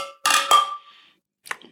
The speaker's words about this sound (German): Ich sag mal Prost, wir haben noch gar nicht angestoßen in diesem Tag.